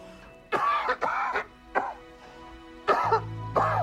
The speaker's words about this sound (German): hustet in das Taschentuch.